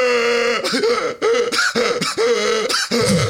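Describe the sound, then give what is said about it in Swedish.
A voice imitates a seal's roar with a string of loud, gravelly, throaty barks, about five or six bursts in a choppy rhythm, each harsh and rasping with low growling undertones. “För vet, sälar de låter ju så här”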